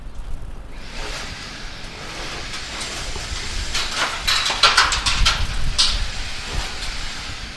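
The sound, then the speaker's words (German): A steady, loud rushing roar of the flowing Rhine and machinery beside a construction site at the Kaserne Basel, broken midway by a cluster of sharp metallic clanks and bangs from the construction work, with no voices. “Jetzt hocken wir aber hier gerade neben der Kaserne Basel. Hier wird gebaut. Neben uns fließt der Rhein.”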